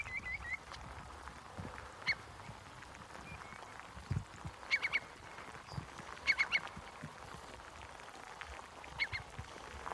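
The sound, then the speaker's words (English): A curlew, which perches on a strainer post in a field, gives short, chattering whickering calls in scattered bursts, a few clustered together, over a steady low rumble of background noise with no one talking. “It's taking to perching on a strainer post up in our top field, and it'll sit there for hours on end, and I've been able to get quite close to it, and it'll sort of whicker to itself. It's not very happy if I get a bit too close. Here it comes again.”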